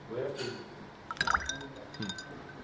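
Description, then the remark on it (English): Liquid pours into a pina colada glass, with a brief cluster of bright clinks from ice knocking against the sides midway, fairly quiet, while a voice murmurs faintly in the background. “this ice is just sitting in the pina colada glass doing nothing”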